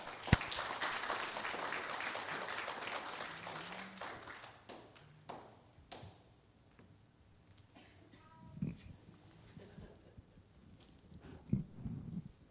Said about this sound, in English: Y'all give … a big hand.